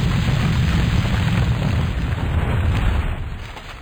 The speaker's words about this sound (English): That's right. Explosions.